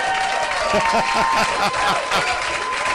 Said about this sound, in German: Das hat jetzt zwar geklungen, als hättest du alle Gläser aus dem Kasten geworfen, aber ein Applaus ist es mir wert.